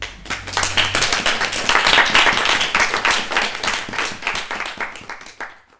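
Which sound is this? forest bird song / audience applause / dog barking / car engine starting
audience applause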